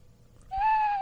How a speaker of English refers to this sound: The Halloween sound machine. Yeah. It's just this... It's like the Three Stooges, basically. It's just saying. Creepy door. Oh. Werewolf. Werewolf. Drunk. Drunk. Owl.